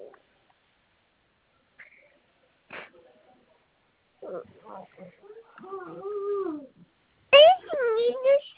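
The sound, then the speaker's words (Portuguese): A baby babbles in short, high-pitched bursts, a few sing-song coos rising and falling, then a louder squealing cry near the end, with quiet gaps in between. “Eu tô com meu neném aqui.”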